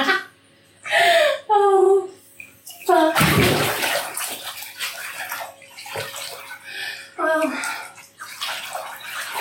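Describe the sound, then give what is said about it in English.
A bathtub fills with a steady rushing gush of running water that starts after a few seconds and continues, while a child's high voice whimpers and babbles over it in short bursts. “I got my bath back.”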